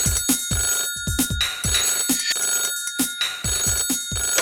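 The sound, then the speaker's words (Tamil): An old-style telephone bell rings loudly and continuously with a bright, metallic trill, set against a steady, rhythmic low thumping beat. No one speaks. “Drink drink drink, telephone அடிக்குது, telephone அடிக்குது, telephone அடிக்குது.”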